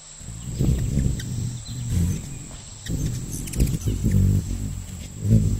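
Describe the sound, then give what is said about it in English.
A low, fluttering hum of hummingbird wings, beating about 55 times per second, swells and fades as the bird hovers and darts, with a faint steady whine in the background. “Their wings move up and down about 55 times per second. That's fast enough that it produces its own sound.”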